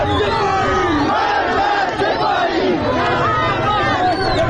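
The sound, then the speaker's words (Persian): A large crowd of protesters at a Friday protest in the streets of Zahedan, Iran, chants slogans such as "Death to Khamenei" and "Death to the IRGC" in unison, many voices shouting together in a loud, continuous roar with rising and falling cadences, steady throughout. “این جمعه هم فریاد مرگ بر خامنه‌ای و مرگ بر سپاهی خیابان‌ها را پر کرده بود.”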